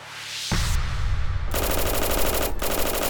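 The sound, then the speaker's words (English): Sustained bursts of Thompson submachine gun fire in a garage housing Bugs Moran's bootlegging operations, as men posing as police officers fire on seven gang members lined against a wall; a loud rapid rattle of shots that kicks in abruptly after a brief low rumble and keeps going with a short break near the end. “The men the cops had led into the building opened fire, spraying bullets from their Thompson submachine guns.”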